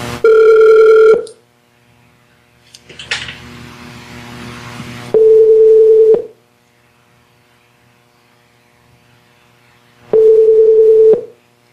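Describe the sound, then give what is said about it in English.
Three loud, sharp, high-pitched telephone keypad tones, each about a second long, separated by pauses, with a brief burst of rushing static between the first two. No one speaks. “Just the tones are incredibly loud. And like really sharp and high pitched.”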